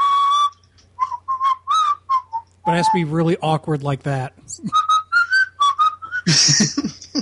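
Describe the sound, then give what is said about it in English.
A person whistles a bright, cheerful tune in short bouncy phrases, clear and super happy, like a 1960s Disney movie whistle. The whistling pauses while someone talks, then resumes before more speech breaks in. “It's like a super happy like 60s Disney movie whistle.”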